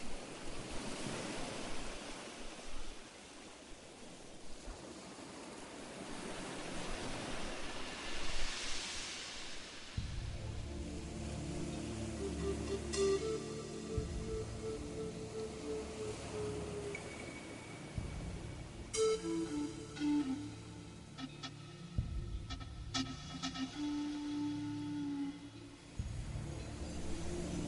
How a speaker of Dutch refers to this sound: De golven rollen in een eindeloos ritme op het strand.